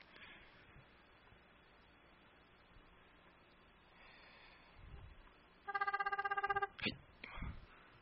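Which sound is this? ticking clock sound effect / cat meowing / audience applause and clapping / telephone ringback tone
telephone ringback tone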